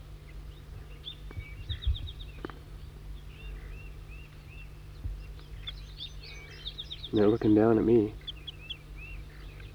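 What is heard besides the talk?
wild birds chittering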